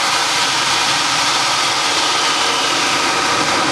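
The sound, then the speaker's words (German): A geyser in a nature reserve erupting from a roughly 15 cm opening on a mound of red-brown boulders, with a loud, steady roar of rushing carbon dioxide and water, a dense hissing wash that holds constant throughout without pauses or voices. “Auf dem Sockel eine rund 15 cm große Öffnung, in der es hörbar brodelt, bis es wenige Minuten später richtig abgeht.”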